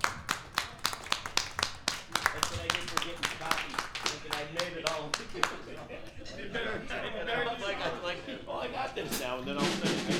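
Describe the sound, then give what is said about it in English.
An audience applauds the songwriters with sharp, loud hand claps for about five seconds. The clapping thins out and gives way to crowd chatter and murmuring voices. “A round of applause for all of our songwriters.”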